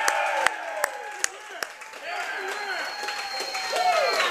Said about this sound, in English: So right now for us live here, a cheer for Andy Reid to get him back on that field.